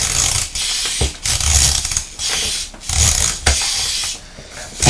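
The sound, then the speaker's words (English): A wind-up timer is twisted and set, giving a bright, raspy ratcheting sound in several uneven bursts with brief pauses between them. Fairly loud, with no voices. “So set the timer and we'll read that page again and then we'll get the stickers off really quickly.”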